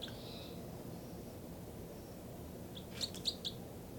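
two birds calling

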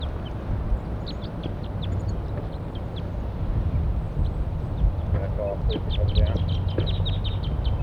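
wild birds calling

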